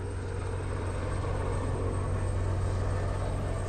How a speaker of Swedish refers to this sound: Han flyger helikopter så ofta han kan. Det blir en sorts meditation.